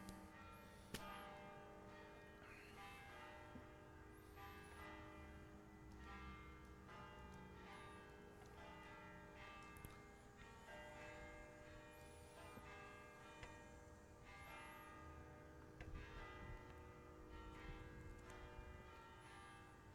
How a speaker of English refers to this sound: Just be thinking about what that means while the bell rings so that I don't have to talk over it.